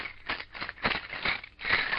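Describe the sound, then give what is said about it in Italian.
Five gold coins jingle and clink together in a bright rattle, several quick metallic chinks repeating unevenly over about two seconds with no voices. “Al simpatico suono di quelle monete”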